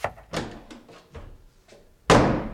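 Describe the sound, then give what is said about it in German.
An offended city councillor leaving the mayor's office slams its door shut with a loud bang that rings out briefly, after a few softer knocks and thumps of movement. “Der muss die Türen aber nicht so doll zuhauen.”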